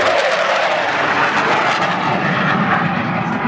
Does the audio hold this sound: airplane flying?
yes